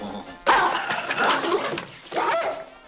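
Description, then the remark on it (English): A dog growls and snaps in a sudden, loud scuffle in a Pink Panther film scene where Inspector Clouseau checks into a hotel; it breaks off briefly before a second burst of snarling; no one speaks. “I thought you said your dear did not bite. That is not my dog.”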